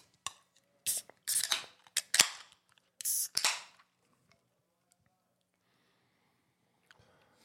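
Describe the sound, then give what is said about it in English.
A beer can cracks open with a series of sharp metallic clicks and short bursts of fizzing hiss, loud and close together over a few seconds, followed by near silence. “This is the first time we've ever had this on a beer can. SRM. Yes. A little ASMR on the channel.”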